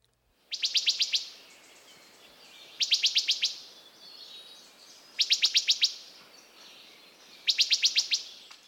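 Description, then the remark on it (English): Loud, clear wood thrush call notes, a quick run of sharp pips repeated in four evenly spaced bursts, alone with no talking. “The call note of the wood thrush is a loud, clear pip, pip, pip, pip.”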